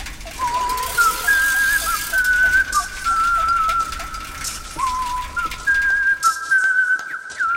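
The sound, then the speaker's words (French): Someone whistles a light, pretty melody while working on an invention, a sound-powered bicycle; the clear tones step up and down in a steady, unhurried tune over a soft background hiss. “Entendez-vous cette jolie mélodie? C'est Pitocha qui sifflote pendant qu'il met au point sa dernière invention.”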